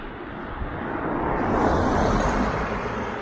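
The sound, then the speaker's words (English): Steady road rumble with a broad wash of tire and engine noise that swells in the middle as a vehicle seems to pass by, then holds on. No one speaks. “Oh yeah, and you might have noticed that the cars aren't crappy either.”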